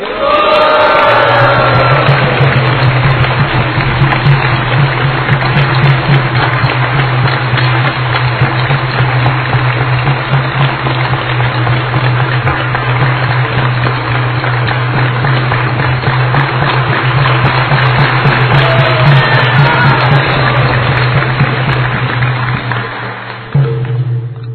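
A large audience applauds steadily and loudly for over twenty seconds, the dense clapping holding even throughout before tapering off at the very end, with a low hum underneath.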